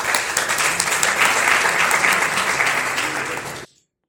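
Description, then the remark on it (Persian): A room full of people claps steadily for a few seconds, a dense, even wash of applause that stays loud throughout and then cuts off abruptly, as the audience of an educational workshop applauds themselves. “خودتون رو تشویق کنم.”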